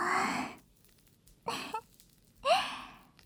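A big yawn during an ear-cleaning session comes through as three breathy, airy bursts separated by short pauses, the last carrying a brief rising voiced whine. No speech accompanies it.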